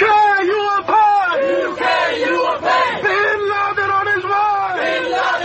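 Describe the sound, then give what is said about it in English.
A large crowd of protesters in 2004 chants loudly in unison, many raised voices shouting repeated rhythmic phrases with brief breaks between them, sustained and forceful throughout. “These protests threatening bloodshed occurred in 2004, 1 year before London's 7/7 subway and bus bombings.”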